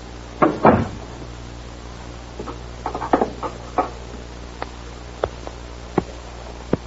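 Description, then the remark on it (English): A cupboard door opens with a solid thump, followed by a cluster of knocks and rattles, then a few sharp, spaced-out clicks as it is handled and shut. No one speaks. “You'll find a lighter on the door.”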